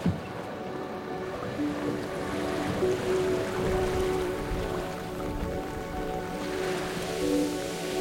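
Steady sea swell washes around a small inflatable zodiac boat in the Iroise Sea, with continuous splashing and sloshing water and a low engine-like hum underneath, with no voices.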